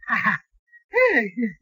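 A man pants heavily, two breathy, voiced gasps in quick succession, the second longer and sliding downward in pitch.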